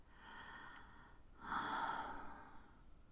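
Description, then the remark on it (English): Breathy airflow with no talking: a soft drawn-out breath followed by a louder, heavier exhale that fades away, like someone breathing faster and harder. “My skin gets goosebumps and my breathing quickens.”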